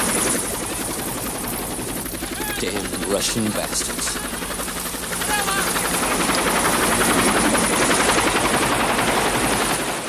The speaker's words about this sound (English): the chopper hoves over the tree canopy and comes into land in the camp.